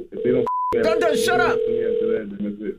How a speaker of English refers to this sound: It's just a phone ringing.